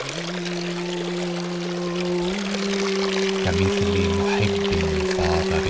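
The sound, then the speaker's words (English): Fountain water runs along the edges and pours steadily into drains, a continuous splashing rush with a low, steady hum underneath that shifts slightly partway through. “Perhaps you don't see how the water runs along the edges and is hidden in the drains thereafter.”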